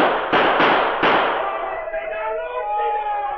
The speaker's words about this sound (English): Shall I use my gun? Yes, but shoot over their head.